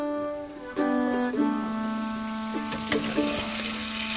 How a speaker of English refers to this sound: Just over here we have the organ meats from the duck cooking up in a pan. Yeah, kind of spitting out at us.